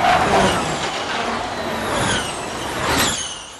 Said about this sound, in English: Clearly, these cars are not your daddy's Prius. The all-electric Formula E race cars are low to the ground, somewhere between a Formula One and an Indy car. They can go from 0 to 60 in under 3 seconds and reach top speeds of over 150 miles per hour.